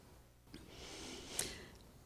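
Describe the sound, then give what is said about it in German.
A single slow, deep breath drawn in and let out through the nose as part of the Hongi, soft and airy, lasting about a second with no talking. “Ja, das ist der Hongi. Wir atmen also ein, die Einladung in die Stille, wirklich vor Gott zu sein. Wir atmen aus, das geht in die Welt hinein.”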